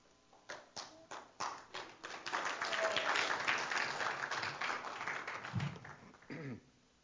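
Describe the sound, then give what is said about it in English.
Scattered hand claps start off, then swell into steady, loud applause from a crowd that holds for several seconds before tapering away, with a brief murmur of voices near the end. “Hope you weren't clapping for me.”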